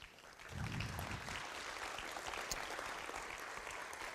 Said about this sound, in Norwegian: Så fremt dere er her inne, så har jeg lyst til at dere også skal komme og få en varm, varm applaus.